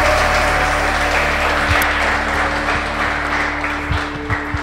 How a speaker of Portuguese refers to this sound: Aleluia, aplauda ao Senhor, aplauda ao Senhor, aplauda ao Senhor.